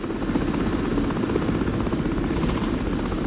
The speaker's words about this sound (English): They continue to fly over more and more terrain. Both men look out on all sides of the helicopter in a vain attempt for a sighting. The helicopter flies through some thick cloud.